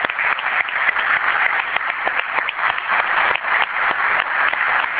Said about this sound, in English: First of all, our presiding officer on Friday, I think Alderman Yates did a fantastic job, and I think we owe you a round of applause for the job that you did.